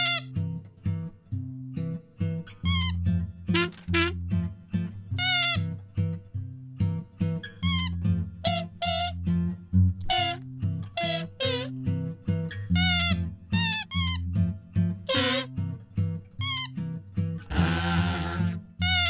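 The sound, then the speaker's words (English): A string of short, high squeaks from trees being bumped into pops up again and again in a playful rhythm over a steady, bouncy musical backing, loud, with no talking. “Boy Blue was having lots of fun making the trees squeak.”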